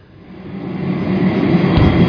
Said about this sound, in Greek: Αυτήν ακριβώς τη στιγμή σταματάει μπροστά στο μαγαζί το τραμ.